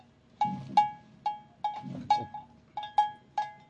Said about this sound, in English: Yeah, now that's not the cowbell. That's just the goat wandering past. Knocked over my damn soy sauce.